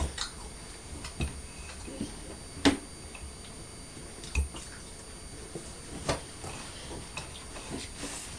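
Crisp, crunchy bites into an apple, a handful of sharp snapping crunches at uneven intervals, fairly faint, with soft chewing noises between them and no talking.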